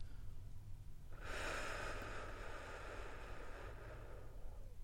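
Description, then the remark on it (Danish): A single long, slow breath exhaled as part of a guided relaxation breathing exercise, a soft steady rush of air lasting a few seconds, with no talking and only a faint low hum underneath. “Så start med at puste ud.”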